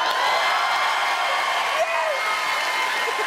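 A crowd claps and cheers in a steady, dense roar throughout, with a brief rising whoop breaking out partway through the applause.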